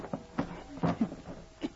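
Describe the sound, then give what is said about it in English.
A wooden box beside a stove in a cabin scrapes and bumps across a floor in a few short, uneven pushes as it is moved aside, a fairly quiet series of rough knocks and scuffs. “And move the wood box.”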